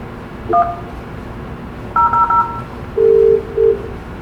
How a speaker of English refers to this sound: Completely cheesy elevator music.